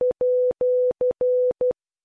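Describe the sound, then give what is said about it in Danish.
A clean, steady Morse code tone keys out six beeps with no other sound: short, long, long, short, long, short, spelling the at sign in a crisp, even rhythm. “Det er symbolet for snabel A.”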